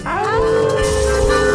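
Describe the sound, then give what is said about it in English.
A group of people on a radio show howl like dogs in unison at the Moondog on the count of three, voices sliding upward and then holding a long, loud, sustained tone for over a second. “All right, everybody, on the count of three, we're going to howl at the Moondog.”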